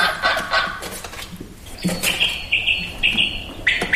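A quail calls in a rapid series of sharp, whistled notes, the short repeated phrases ringing out loudly with no voices present.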